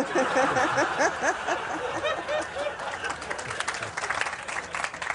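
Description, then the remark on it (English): An audience bursts into laughter and steady applause, with voices chuckling over dense clapping that carries on for several seconds at moderate volume, the clapping growing more distinct toward the end. “Thank you for the applause, but I can't remember who said it.”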